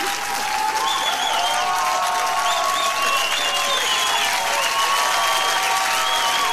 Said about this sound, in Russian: Че смотришь, хлопай